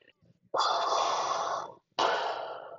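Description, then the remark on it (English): A voice imitates Darth Vader's heavy mechanical respirator breathing: two loud, hissing breaths, a long drawn-out inhale followed after a brief pause by a shorter exhale. “Darth Vader just stood there, just breathing.”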